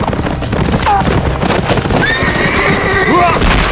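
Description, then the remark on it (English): A horse neighs with a high, shrill, wavering whinny that rises and falls over a second or so as its rider yanks it to a stop, set against steady clip-clopping hooves and a loud, noisy background. “Preacher yanked horse to a stop and whipped out his Winchester.”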